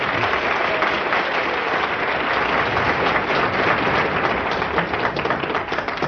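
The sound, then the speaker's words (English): Steady, dense applause from an audience at a lecture by L. Ron Hubbard given on 2 January 1960, many hands clapping at once in a continuous crackling wash that holds at a fairly loud, even level throughout, with no voices rising above it. “Well, I'm actually very indebted to you for the applause and for staying here today.”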